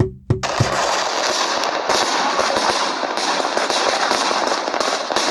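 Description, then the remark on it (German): New Year's Eve fireworks crackle and pop in a dense, continuous barrage, with countless rapid, irregular bangs layered into a loud, hissing roar that never lets up. “Feuerwerk fängt los, gleich los, an.”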